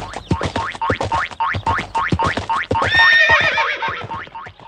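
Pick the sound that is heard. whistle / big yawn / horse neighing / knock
horse neighing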